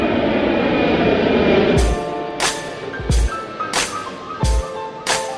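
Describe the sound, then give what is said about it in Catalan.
A small four-seat propeller plane's engine drones steadily at the airport of La Seu, then settles into a rougher, rhythmic pulsing with regular bursts roughly every half second. No one speaks. “Des d'avui fins diumenge es poden contractar vols amb una avioneta de 4 places acompanyats d'un pilot que també és instructor de vol.”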